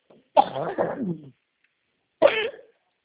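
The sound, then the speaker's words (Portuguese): A woman coughs in two separate bursts: a longer, rough fit of coughing followed after a pause by a single shorter cough, fairly loud with no talking. “Tá bom, moço, eu estou sem poder falar. Tá Estou bom, então. tossindo.”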